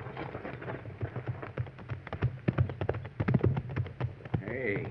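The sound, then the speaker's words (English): Hooves of ridden horses clip-clop in a busy, uneven rhythm of many sharp strikes, steady throughout, with a brief voice-like cry rising near the end. “Get on off those horses.”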